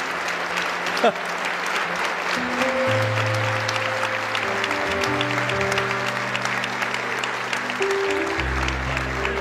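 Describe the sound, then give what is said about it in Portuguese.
A church audience applauds Jesus with dense, steady clapping that lasts the whole clip, while sustained low keyboard chords swell in underneath after a few seconds. “Podemos aplaudir a Jesus por pessoas assim?”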